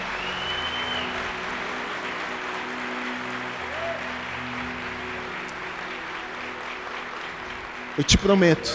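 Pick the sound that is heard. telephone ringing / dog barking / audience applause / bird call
audience applause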